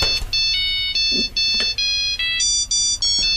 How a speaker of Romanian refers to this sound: Domnul Bucur, domnul, vă sună telefonul.